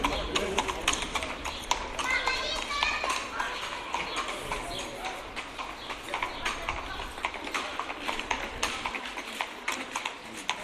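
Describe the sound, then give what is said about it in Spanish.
The hooves of heavy Percheron draft horses clip-clop in a steady, continuous rhythm on hard ground. The horses pull a rubber-wheeled cart loaded with many soda siphons for bars. Muffled voices and general street noise sit underneath. “Caballos percherón que no existe ya.”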